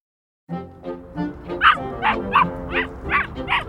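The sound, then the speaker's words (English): A yellow puppy named Tammy barks in a quick, steady string of about ten high yips, fairly loud, with no one talking over it. “I'm Tammy, a yellow puppy in the city.”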